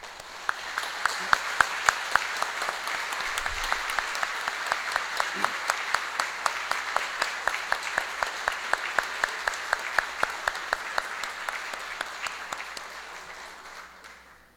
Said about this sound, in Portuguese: e eu peço a todos para que, uma calorosa salva de palmas, possamos fazer uma pequena homenagem por toda a dedicação que essas pessoas tiveram por nosso município.